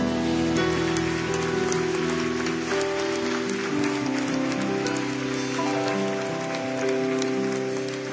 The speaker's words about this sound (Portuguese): Aleluia. Vamos aplaudir Jesus.